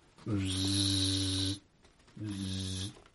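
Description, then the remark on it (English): A person imitates a wasp with two sustained, nasal buzzing hums, the first about a second and a half long, then a short pause and a slightly shorter second buzz. “Actually, you know, that was me pretending to buzz.”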